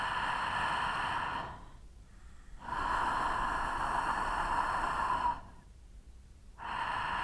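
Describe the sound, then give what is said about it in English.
Slow, audible breathing with a soft hissing friction in the throat, three long breaths separated by brief quiet pauses, steady, with no talking. “So let's return to a correct throat friction.”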